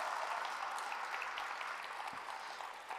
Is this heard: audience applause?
yes